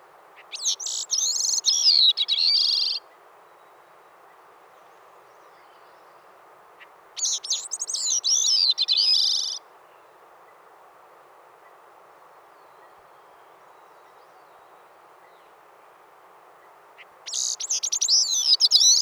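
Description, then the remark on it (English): Bicknell's thrush song: three separate bursts of thin, high, fluty notes that waver and spiral in pitch, each a couple of seconds long, with long pauses between over a steady background hiss. “Songs may differ in volume and duration, but all are characterized by a thin, nasal, flute-like quality.”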